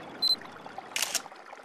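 A snowmelt creek trickles softly and steadily at nightfall, with a brief high-pitched chirp near the start and a short rush of hissy noise partway through. No one speaks.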